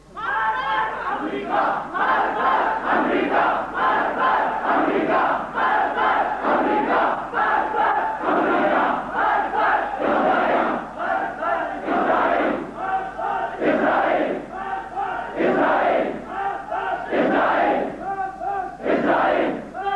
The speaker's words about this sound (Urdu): پاکستان کے نوجوانوں نے، بوڑھوں نے، مستورات نے، علماء نے، سب آپ کی اپیل کو لبے کہتے ہوئے یوم القدس منا کر امریکہ اور اسرائیل اور روس کے خلاف مارک بر امریکہ، مارک بر روسیہ، مارک بر اسرائیل نعرے لگائے.